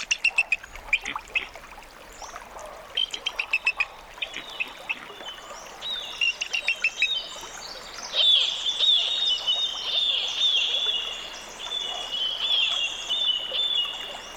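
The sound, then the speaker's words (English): A fledgling bald eagle learning to fish for salmon near Glacier Bay, Alaska, recorded by Bernie Krause, gives repeated high, thin piping calls in quick bursts, then a steadier chittering run, with faint water and nature ambience around it and no talking. “Bernie Krause recorded this fledgling bald eagle learning to fish for salmon near Glacier Bay in Alaska.”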